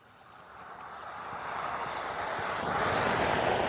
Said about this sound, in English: Somebody's mowing a yard. The direction it's coming from, the nearest yard is a quarter of a mile away.